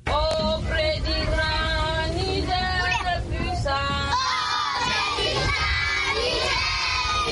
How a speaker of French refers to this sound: À l'entrée de la ville de Bosso, impossible de rater l'école ni les cris des enfants qui récitent leurs leçons.